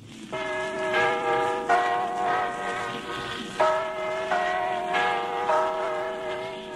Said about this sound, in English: There was a great one about the history of the Big Ben chimes, the recent one, the recording from the 1890s, I think it was. Check out this old recording of Big Ben, which is not a person, not a clock, not a tower. It's a bell, ding dong.